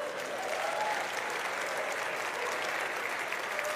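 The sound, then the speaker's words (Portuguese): A crowd breaks into a full round of applause, dense clapping that stays steady and loud for several seconds with no voices standing out. “eu acho que eu mereço uma salva de palmas.”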